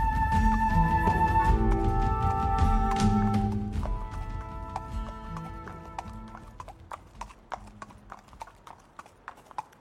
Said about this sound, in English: The old burly man, known as Gerwin, threw Sammy onto his horse and rode off towards the crossroads.